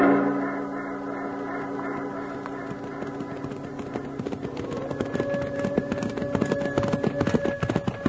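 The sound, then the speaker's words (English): Galloping horses, carrying riders chasing a howling sound on a mountain, pound along with a quick, steady drumming of hoofbeats that grows denser and louder, while a sustained tonal hum, like background music, runs underneath. “we ride and ride and never seem to catch up with that there howling.”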